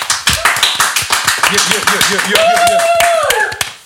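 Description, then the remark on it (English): Steady hand clapping in a quick, even rhythm that continues throughout, with wavering vocal sounds and voices rising over the applause partway through. “I'm going to keep clapping so we sound really popular.”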